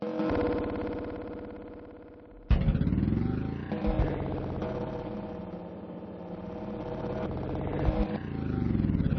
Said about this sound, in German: Jetzt ist der Nebel dichter. Ich muss langsam fahren, aber das Auto geht sowieso nicht schnell. Es ist alt, dauernd muss man was richten. Laut ist es auch und die Scheibenwischer verschmieren die Sicht.